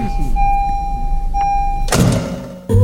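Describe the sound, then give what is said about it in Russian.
A steady electronic hum and a faint high whine, then a door shuts with a solid thud, followed moments later by a second sharp knock. “…, дверь закрой, заебал. Да сейчас закрою”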